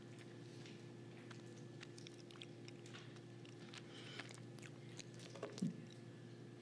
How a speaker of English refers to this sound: Some of you, you know, you need a little bit of time to finish chewing that tiny little bread.